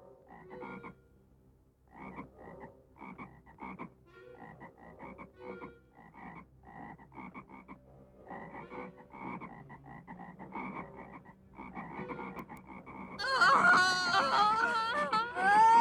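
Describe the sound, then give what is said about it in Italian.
A dense chorus of frogs, coming up from the waters of Egypt and covering the land, croaks in rapid, pulsing bursts that grow steadily louder, and near the end high wailing cries of slave women break out over the croaking. “E al comando di Geova, Aronne stese la mano sulle acque d'Egitto, e le rane salivano e coprivano il paese d'Egitto.”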